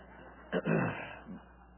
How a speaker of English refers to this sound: This time of the year is allergy season, and I'm dealing with it, so I apologize up front for coughing. I can't help it.